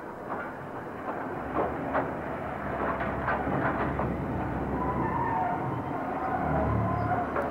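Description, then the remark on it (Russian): A train pulls into a station with a steady, heavy rumble, punctuated by scattered metallic clanks and brief squealing tones that rise slightly toward the end. It is continuous, with no voices. “Поезд! Стоит 10 минут.”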